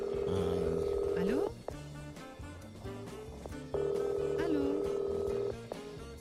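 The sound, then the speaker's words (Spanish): Two long ringback tones from a phone line as a call is placed, each lasting over a second, with a pause between them. Faint background speech and music sit underneath. “Vale, perfecto, pues vamos a llamar en este momento.”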